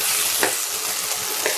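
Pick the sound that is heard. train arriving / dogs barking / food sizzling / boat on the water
food sizzling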